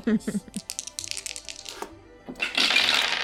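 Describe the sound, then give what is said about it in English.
Dice clatter across a hard surface in a quick run of sharp clicks and taps that scatter and slow, followed by a louder rustling, hissing noise. “I'm gonna try to roll it.”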